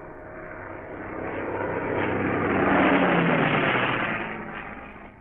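A steady, droning hum of aircraft engines with a faint howling whine, swelling around the middle as the planes pass overhead and then slowly fading.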